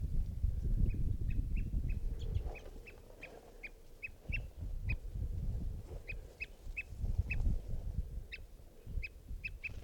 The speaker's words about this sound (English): And a type 2 bird adult was heard calling as well.